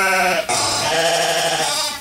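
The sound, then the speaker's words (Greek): Two loud sheep bleats in quick succession, the second long and wavering, with no talking over them, used in a radio advertisement for the clothing brand Black Sheep. “Black Sheep, όπως το πρόβατο, το μαύρο.”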